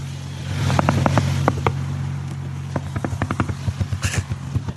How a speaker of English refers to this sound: He just, like, fucking wakes up, and the car just rolls forward immediately. You know, like, oh, yeah, all right. Hits the sign, runs over the sign.